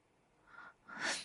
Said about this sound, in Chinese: 等等，你在咳嗽？你不会是生病了吧？